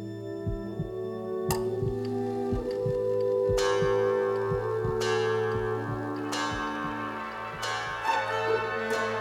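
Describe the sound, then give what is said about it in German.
Church bells strike at noon on a Sunday in a slow, uneven sequence, each heavy strike blooming into long, overlapping metallic tones that hum and linger, steady, with no voices. “Sonntags um 12 schlägt immer eine Glocke an.”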